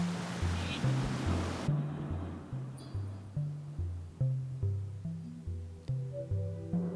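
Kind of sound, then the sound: nature, flowing water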